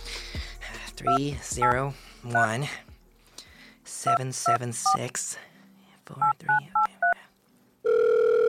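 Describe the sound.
Touch-tone keypad beeps as a phone number is dialed to call Rat Pack Industry, about nine short tones in groups of three, with a man speaking between them, ending in a steady, loud phone tone.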